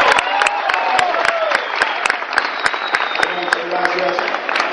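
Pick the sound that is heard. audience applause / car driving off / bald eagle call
audience applause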